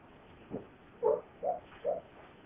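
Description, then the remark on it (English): A dog lets out four soft, muffled woofs in its sleep, short stifled barks spaced unevenly over a couple of seconds, with no talking. “One of our dogs is having a nightmare or something, or having a good dream. You never know with dogs. Start barking and running in their sleep.”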